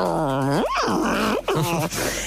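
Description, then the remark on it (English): A person's voice imitates the low, contented growl of Sham, a dog being washed with dog shampoo, rising into a whiny groan and sliding back down, fairly loud, with no other talking. “He was getting really into it at this point. He was like...”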